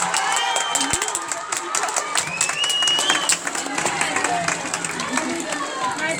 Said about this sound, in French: Ensuite, toute l'équipe enseignante qui s'investit quotidiennement, donc je voudrais qu'on les applaudisse aussi. Bravo les enseignants.